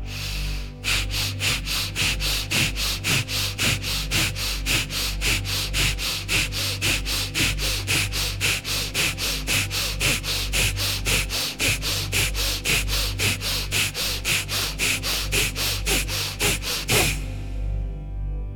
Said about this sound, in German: Beginnen Sie nun mit dem Feueratmen. Atmen Sie dafür in gleicher Intensität schnell und rhythmisch durch die Nase ein und aus.